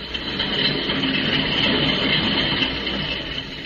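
A train heading north rolls steadily along the tracks, a continuous loud rumble with a faint rhythmic clatter underneath and a hissing wash in the upper range, holding even throughout with no voices.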